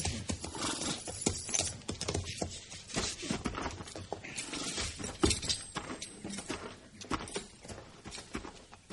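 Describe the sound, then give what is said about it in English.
Horses' hooves clip-clop steadily as Marshal Dillon and Chester ride up to a house, a dense run of overlapping hoofbeats from more than one animal, continuing without pause and with no voices. “Let's leave the horses here.”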